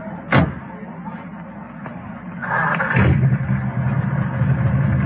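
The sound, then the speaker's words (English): A car door thumps shut, then the engine of an old jalopy cranks and catches, settling into a steady, rumbling idle that continues to the end. “Man, the engine sounds nice, doesn't it?”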